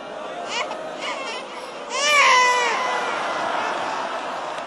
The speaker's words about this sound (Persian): بچهش گریه کرد